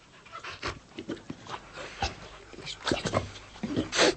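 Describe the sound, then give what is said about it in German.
A German shepherd whimpers and pants, quick breathy huffs mixed with high whiny whines, continuing unevenly for a few seconds with no talking. “Hey du, du bist ja gar kein Wolf. Du bist ja ein Schäferhund.”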